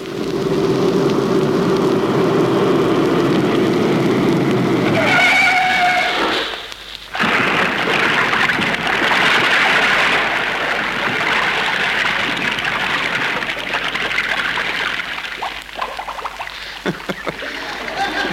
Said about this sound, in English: the effect of a car skidding on a wet bridge